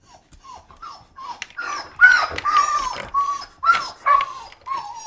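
A female husky dog gives a string of loud barks mixed with whiny, yipping cries, coming in irregular bursts for several seconds with no one talking.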